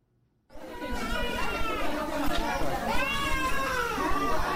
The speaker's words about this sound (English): Nine infants cry for assistance at the Kolofata Central Mosque on Cameroon's northern border with Nigeria.